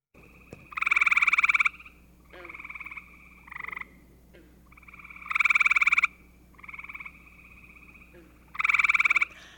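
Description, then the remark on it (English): A gray tree frog calls with loud, pulsed musical trills, repeated three times in long bursts with shorter chirps between, over a quiet background and no talking. “Today we're talking about vernal pools, the temporary but vibrant habitats that show up every spring and are home to creatures like the gray tree frog.”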